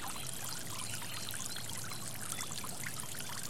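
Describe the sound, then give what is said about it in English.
Water rushes steadily along a stream, a continuous bright, bubbling wash that holds an even level from start to finish, with no voices. “You can hear birds singing as the stream rushes by.”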